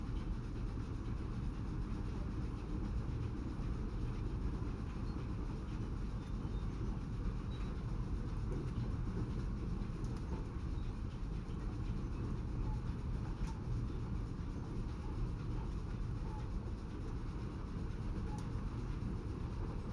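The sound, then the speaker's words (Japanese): Wheels of the Blue Train, an old-style steam locomotive train bound for Cape Town, clack over rail joints on a clear day beneath a steady, heavy rolling rumble that continues without letup for the whole stretch, with no voices. “どうぞこのブルートレイルのジョイント音に耳を澄ませてみてください。昔ながらの蒸気機関車なんですよ。”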